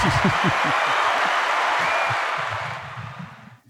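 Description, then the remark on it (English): A round of applause sound effect for a guest on a show: many hands clapping in a dense, steady wash with a few cheers mixed in, holding loud before fading out toward the end. “That round of applause makes me think of the baseball games during COVID when they would hit a run and you'd hear the entire fans cheering and nobody was there.”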